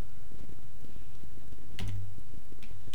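Someone types a sentence about students living in Groningen on a computer keyboard, a quick irregular run of soft key clicks with a couple of louder key strikes and a low background hum.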